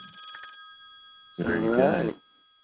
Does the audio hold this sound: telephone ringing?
yes